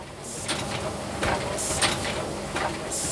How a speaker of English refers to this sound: Now we're in the area with a little bit more robot traffic. On an assembly line, a machine places vials of clear liquid into blue syringes. You can see the pens clattering out.